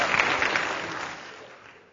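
A church crowd claps together in a dense, crackling burst of applause for a helper who assisted at the front, starting strong and gradually fading over a couple of seconds, with no voices over it.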